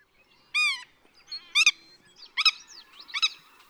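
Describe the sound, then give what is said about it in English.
A willet calls four times in a loose rhythm, each note loud, ringing and nasal, with faint chattering birds in the quiet gaps between. “Willet.”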